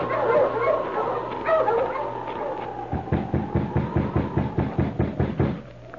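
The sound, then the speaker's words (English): A sled dog team, halted by its driver in the early morning at an isolated spot surrounded by birch trees, whines and yips excitedly, then breaks into a quick, steady run of about a dozen sharp, loud barks before settling into a lingering whine. “A week passed, and then, in the early morning at an isolated spot surrounded by birch trees, a driver halted his team of dogs.”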